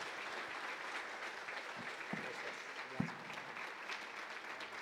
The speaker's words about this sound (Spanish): Te damos la bienvenida y lo recibimos con un aplauso de bendición.